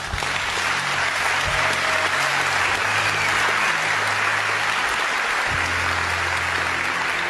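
An audience applauds steadily, a dense, even wash of clapping that holds at a fairly loud level for about seven seconds without speech on top.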